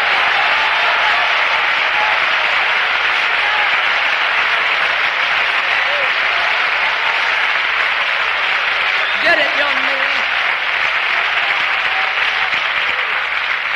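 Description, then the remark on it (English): An audience claps and shouts in a dense, steady roar of applause lasting the whole stretch, with scattered voices calling out and a brief louder shout rising partway through. “Come on, and everybody clap and everybody shout.”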